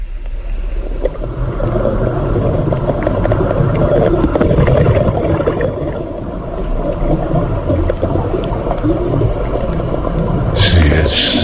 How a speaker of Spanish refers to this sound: Pero a ti te he buscado otro sonido, que es el sonido del mar por dentro. Entonces quiero que lo escuches y me digas dónde se va tu cabeza.